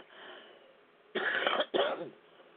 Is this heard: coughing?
yes